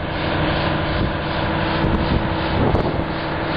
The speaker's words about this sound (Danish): Er det ikke et myt-tog, der rangerer? Nej, det er det ikke. Det er Sølvpilen, som altså DSB's tog. Sølvpilen, som holder i tomgang.